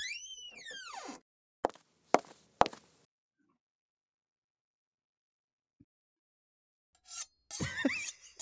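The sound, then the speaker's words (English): In an apartment, a door creaks open with a drawn-out, wavering squeal, followed by three sharp, evenly spaced shoe footsteps on a hard floor; after a quiet pause, another creaking squeak comes. “And we hear a door creak open.”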